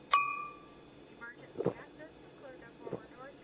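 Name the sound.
glasses clinking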